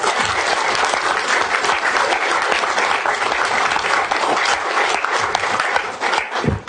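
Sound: audience applause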